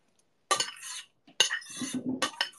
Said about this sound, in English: Pouring the soup.